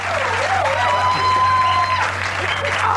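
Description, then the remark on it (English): The studio audience of Conan O'Brien's show in 1997 applauds and cheers, a steady wash of clapping with whoops and whistled tones rising over it throughout, fairly loud and continuous for the full few seconds. “Aren't they sweet to applaud and cheer like that?”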